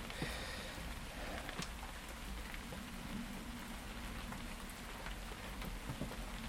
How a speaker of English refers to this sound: Watching and listening to the rain, it's just wonderful. Couldn't feel down doing this.